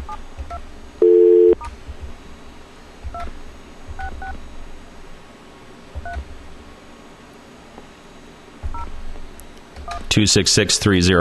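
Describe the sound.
A brief steady tone, then a series of touch-tone beeps as a telephone number is dialed to reach an echo test line, spaced unevenly over several seconds on a faint line hiss, before a voice comes on at the end.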